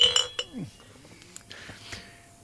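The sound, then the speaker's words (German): Glasses clink together in a toast, a few bright, ringing chinks, followed by faint rustling and soft tapping. “Wäre vielleicht mal Zeit, dass wir mal anstoßen.”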